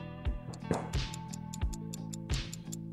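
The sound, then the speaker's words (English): A countdown timer ticks steadily over a sustained, tense musical drone while a quiz question is being answered, with crisp, moderately loud clicks at a regular pace and no voices. “The time is really ticking it.”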